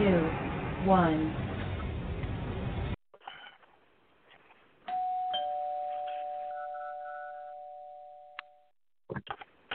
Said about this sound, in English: Somebody's ringing the bell.